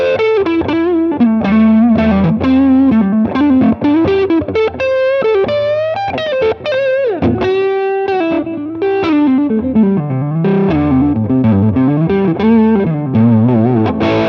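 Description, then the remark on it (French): A Marshall-style overdriven electric guitar, played on the neck pickup through an overdrive with its clipping turned up, plays a steady, loud run of sustained, bending melodic lines with a thick, saturated tone, and no voices are heard. “Là, on a une overdrive très Marshall.”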